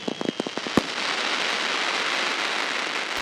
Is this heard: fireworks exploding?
yes